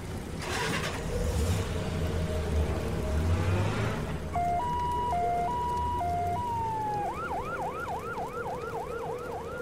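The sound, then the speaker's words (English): Over a steady rumble of road traffic, an emergency siren starts up with a two-tone hi-lo pattern, then switches to a fast, repeating yelp that stays fairly loud to the end. “No one moved until the sound of the siren could no longer be heard, and even then, no one was anxious to start their cars.”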